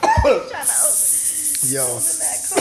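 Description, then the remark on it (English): A man stifles a cough, giving a short throaty burst followed by strained, hissing breaths and a muffled voiced grunt, fairly loud. “Yeah, he's trying to hold in that cough.”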